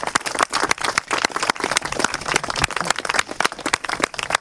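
An audience applauds a list of people being thanked, many hands clapping in a dense, continuous patter that stays fairly loud throughout with no voices.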